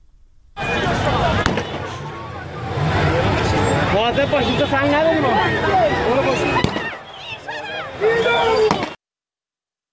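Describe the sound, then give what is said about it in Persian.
Several sharp gunshot bangs and tear gas launches crack out at irregular intervals over a noisy, agitated crowd of protesters, with people shouting and talking urgently throughout, as security and military forces fire tear gas and shoot toward the people. “نیروهای انتظامی در واقع امنیتی و نظامی گاز اشکاور شلیک کردن، تیراندازی کردن به سوی مردم.”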